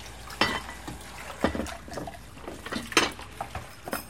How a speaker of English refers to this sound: In her kitchen, Julie runs dishes under the faucet.